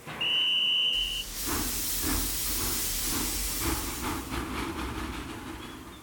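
An old steam train pulls into a tiny halt, with a short, high whistle at the start, then loud, steady steam hissing over a rhythmic clatter of wheels, continuous with no voices.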